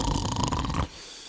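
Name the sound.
snoring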